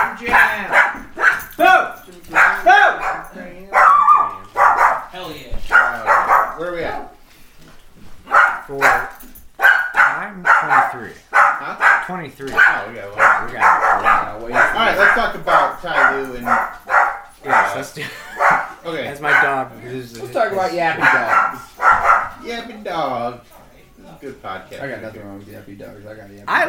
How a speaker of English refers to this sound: I got a yappy dog. I love her. What kind of a dog do you have? She's a Cam Terrier Poodle mix, like Toto from Wizard of Oz, but with a softer coat. Oh, like big or tiny? Okay, tiny little thing.